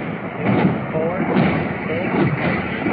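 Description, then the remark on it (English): A steady roar of muffled explosions from rockets and bombs dropped by an attacking aircraft, thudding bursts blending into dense rumbling noise, with faint voices underneath. “Let's hear how many explosions we hear.”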